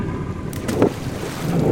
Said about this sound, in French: Un ami pêcheur l'emmène jusqu'à Bilbao en Espagne. Il y a une tempête, elle a le mal de mer et ses valises tombent dans l'eau et coulent.